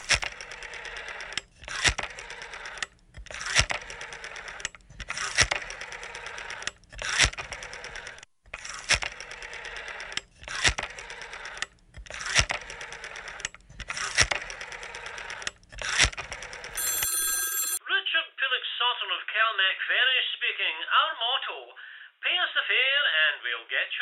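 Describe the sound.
A telephone dial whirs and clicks in a series of regular bursts with short pauses between digits as a call is placed to Calmac, then a brief tone, followed by a thin, tinny voice coming over the phone line.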